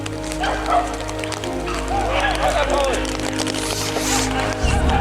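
Hunting dogs bark and yelp in an excited, scattered chorus during a hunt, chasing a wounded wild boar of about 20 to 25 kilos, with steady outdoor rumble underneath and people calling out over the commotion.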